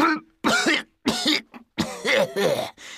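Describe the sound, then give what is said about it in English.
A rapid run of harsh, raspy coughs, fairly loud, coming in a choppy series of bursts with brief gaps between them, with no talking. “That's a terrible cough.”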